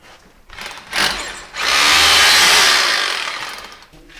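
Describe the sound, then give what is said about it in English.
A power drill bit reopens a hole to clear debris: a brief whirring burst, then a loud, sustained grinding whine for about two seconds before it winds down. No one speaks. “So we've opened the hole a bit with the drill bit again, so having another go.”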